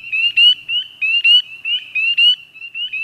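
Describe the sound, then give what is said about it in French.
A high, musical tree frog call repeats in quick pip-pip bursts, clear, several peeps every second or so, heard in spring, with no voices present. “Mais elle nous enchante quand même au printemps avec son pip-pip musical.”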